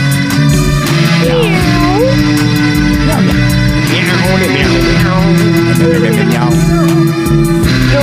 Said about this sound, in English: Meow.